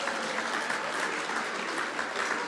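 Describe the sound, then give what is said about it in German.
An audience claps steadily throughout, applauding the municipality of Wiesen in Burgenland, Austria, a dense, even wash of many hands with no pauses and no voices rising above it. “Na, da hat es natürlich einen Applaus verdient.”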